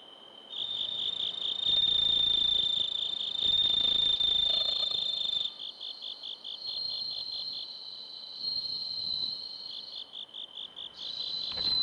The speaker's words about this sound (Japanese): 仙台市の虫としても知られるスズムシ、自然ではなかなか見つけることが難しくなりましたが、そんなスズムシを飼育している岩切市民センターにお邪魔して鳴き声を録音させていただきました。宮城野のスズムシとして日本の音風景百選にも選ばれている音を少しお楽しみください。